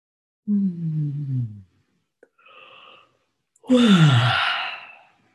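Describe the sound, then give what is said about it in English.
Two long, drawn-out yawns made while stretching at the start of a meditation, with voiced tones sliding downward, separated by a short breathy inhale; the second yawn is louder and airier, with no talking. “And we will start, to your great surprise, with stretching and yawning.”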